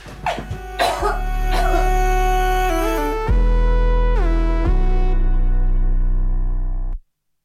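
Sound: coughing and throat clearing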